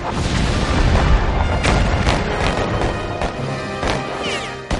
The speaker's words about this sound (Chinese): 而同时港口对面的邦联炮舰亦做好准备，他们的炮声就是开战的信号，港口周围的其他炮舰会一起投入战斗。